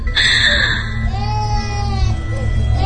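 A small child cries in a thin, wavering wail that rises and falls over a few seconds, set against a heavy, low rumbling drone.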